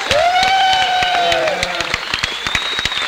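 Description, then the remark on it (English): A crowd applauds for a birthday with dense, steady clapping, joined by a long high whistle or whooping cheer that rises and holds through the burst. “Hey, listen, could we give a big round of applause”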